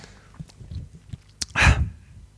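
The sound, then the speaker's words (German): A single muffled, off-mic sneeze from a person who has taken off their headset to sneeze, coming after a few soft clicks and rustles, then fading back into near quiet. “Das war, ich musste niesen und habe dafür das Headset abgenommen.”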